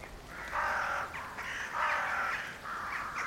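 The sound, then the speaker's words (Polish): Flocks of crows fly east over a road, cawing loudly in harsh, overlapping bursts, one raucous call after another in quick succession, with no talking. “Nad gościńcem leciały stada wron, kracząc donośnie.”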